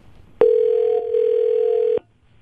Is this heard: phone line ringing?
yes